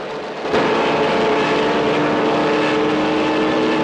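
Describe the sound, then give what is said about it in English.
A fighter plane's engine roars loud as it pursues another plane in aerial combat, swelling in after a brief quieter moment and then holding a steady, droning growl throughout with no voices. “a fighter plane behind him starts to fire at him.”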